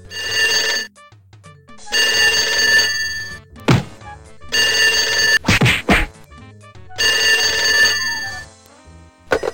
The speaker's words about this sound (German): und dann klingelt das Telefon